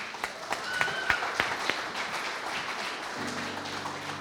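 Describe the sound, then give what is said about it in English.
A church audience breaks into steady applause for four children being baptized, many hands clapping together in a dense, continuous patter with a few sharper claps standing out early on, sustained at moderate volume throughout. “Clap for them.”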